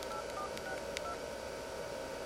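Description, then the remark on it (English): A quick run of touch-tone beeps as a phone number is dialed, short steady tones in brisk succession over a constant background hiss, moderately quiet. “People listening could, like, enhance that and find out your phone number and stalk you.”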